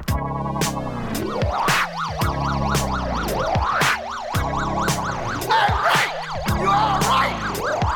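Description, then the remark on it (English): A police siren wails in a rapid, rising-and-falling warble throughout, loud, layered over pounding music with heavy rhythmic drum hits. “Down on the corner, the siren sound, and there are police all around.”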